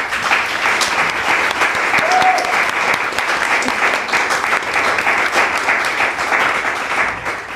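Sustained applause from an audience welcoming the Grünschnabel nominees at the Figura puppet and figure theatre festival, dense steady clapping at an even loudness throughout, with a brief faint whoop or voice rising above it partway through.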